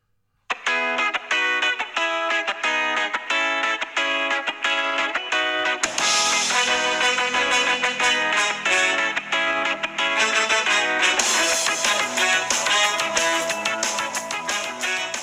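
A loud, upbeat ska punk tune with distorted guitar opens alone, then the full band crashes in a few seconds later and drives on energetically with no talking.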